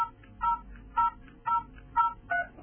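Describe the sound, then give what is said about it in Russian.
Five short electronic keypad beeps as a timer time is keyed in six-digit format (hours, minutes, seconds), 00.00.03, at a steady, even pace, each a bright two-tone chirp, with a faint low hum underneath and no talking. “С клавиатуры вводим время в шестизначном формате.”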